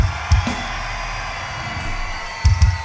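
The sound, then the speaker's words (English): A large concert crowd in Chicago roars and cheers in a steady, dense wash of noise, with a couple of low thumping bursts rising briefly out of the din. “Do me a favor and scream louder”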